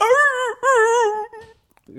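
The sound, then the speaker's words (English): A dog lets out two drawn-out, wavering whimpering howls, loud, the second fading into a short quieter whine before a brief pause. “A ghost was killing a dog.”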